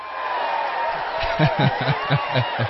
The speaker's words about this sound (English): You know, when you get that, bro, like when you get that kind of support and you get that kind of applause and a crowd that's really involved, it's always so humbling because you realize this is bigger than ourselves.